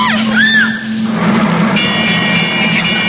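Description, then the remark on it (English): A loud, steady mechanical drone with a deep hum, joined by a brief rising whine and then sustained high metallic tones: a ship's heavy engines churning as they're thrown into reverse in thick fog, before the ship hits an iceberg. “Sounds like they reversed the engines.”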